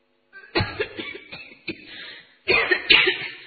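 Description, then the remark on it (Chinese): A series of harsh, heavy coughs comes in bursts, a rough cluster early on and another strong burst near the end, loud with no speech. A sick man has a violent coughing fit while talking. “说着说着，他又剧烈的咳嗽了一阵子。”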